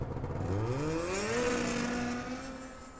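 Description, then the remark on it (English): Whip Roberts's snowmobile engine revs up, its whining pitch rising steadily with acceleration before settling into a steady drone that slowly fades as he drives away. “And with that, Whip Roberts walked away and remounted his snowmobile.”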